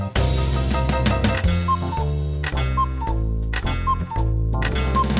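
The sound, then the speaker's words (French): A steady alarm clock tick-tock keeps a regular beat under a bright, full musical accompaniment, crisp, with no voices. “Dans le salon de Napoléon, il y a un réveil qui se gratte l'oreille. Tic-tac, tic-tac, que se passe-t-il?”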